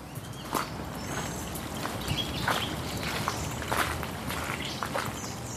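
Steady footsteps crunch along at an even walking pace, walking up from the city into the town belt, over a continuous wash of trickling, bubbling water from a stream, with no voices present.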